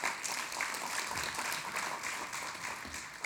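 A crowd claps together in a dense, steady patter of many hands. The applause stays even and fairly soft for a few seconds, with no voices standing out.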